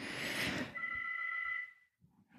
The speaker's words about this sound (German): Man sollte das Telefon abstellen, wenn man eine Podcast-Aufnahme macht. Ich lasse es jetzt erstmal nur klingeln.